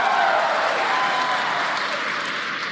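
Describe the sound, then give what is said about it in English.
A crowd cheers and claps at a rocket launch in a steady, dense roar of applause that holds at a loud, even level throughout, with no distinct voices standing out. “You can tell by the cheers behind us and the views on your screen.”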